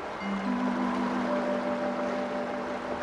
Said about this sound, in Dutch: De ijsschots stort langs de waterval omlaag.